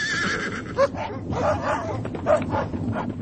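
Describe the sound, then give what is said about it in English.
Hounds bark and bay in a noisy, overlapping chorus, with a couple of sharp louder yelps cutting through and a horse-like whinny mixed into the din. “Release the hound!”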